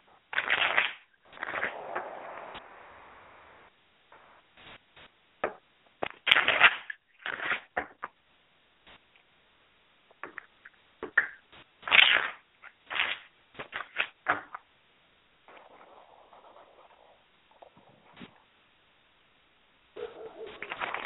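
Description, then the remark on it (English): A deck of cards is shuffled in repeated bursts of crisp riffling and snapping, with short pauses between shuffles and a few softer sliding passes, no talking. “Don't tell me, but you have that going in the back of your mind while I'm shuffling, and then we'll go ahead and move forward from there.”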